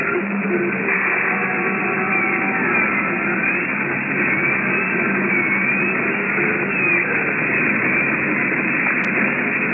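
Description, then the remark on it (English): A dense, steady electrical hum of motor generators starting up fills the whole stretch, droning continuously with faint whining overtones and a noisy, static-like texture, without any voices. “of acids and strange equipment around us, we heard the hum of the motor generators start up.”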